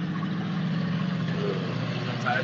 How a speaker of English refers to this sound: I think the bar music's going to be quieter than the diesel truck.